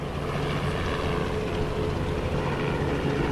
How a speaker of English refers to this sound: News helicopters buzzed overhead while police set up roadblocks not far from where the Airbus A300 lay in pieces.